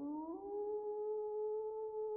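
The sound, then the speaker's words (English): A wolf howls in one long, sustained note that rises slightly at the start and then holds a steady, mournful pitch for the whole stretch, with no other voices present. “What was that sound, Grandpa? The spirit of the Black Wolf.”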